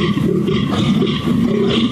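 A European fallow deer's mating call: a deep, rasping, guttural groan held loudly for about two seconds, with no voices present.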